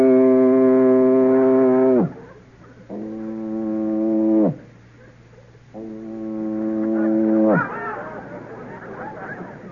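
Three long, deep foghorn blasts in a row, each droning loudly for a couple of seconds before its pitch sags away, with a faint murmur of people in between.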